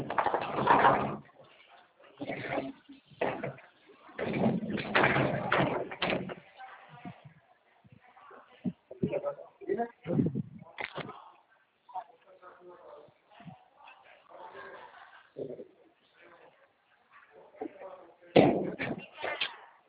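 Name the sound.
door being pushed shut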